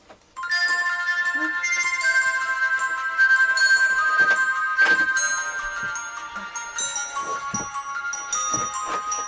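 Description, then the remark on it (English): A mobile phone ringtone plays a bright, melodic electronic tune that starts abruptly and continues steadily, loud and clear with no talking over it. “I didn't know my phone was going to go off, did I?”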